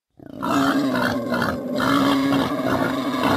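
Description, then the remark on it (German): A wild boar grunts and snorts loudly on a street in Berlin at night, a harsh, rough, almost continuous vocalization lasting about three seconds with a brief dip in the middle. No one speaks. “Wildschweine, sogar mittlerweile richtig viele, wohnen schon in Berlin.”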